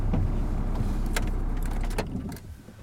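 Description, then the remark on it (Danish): A car engine idles with a low, steady rumble and a couple of sharp clicks, then is switched off in a forest by a fjord about two-thirds of the way through, leaving a quieter tail with a faint jingle of keys. “Skal vi slukke den her motor.”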